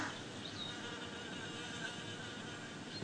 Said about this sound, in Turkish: Tabii arı hala onun dişi bir arı olmadığını farkında değil. Bu yüzden gidiyor başka orkide bitkilerini de dolaşıyor.